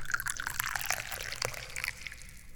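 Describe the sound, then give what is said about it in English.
Chia Guanyin tea pours steadily into a cup, a continuous liquid trickle with faint splashy bubbling that rises slightly in pitch as the cup fills, no voices. “But right now, I need tea, so let's pour some tea so I can then drink it.”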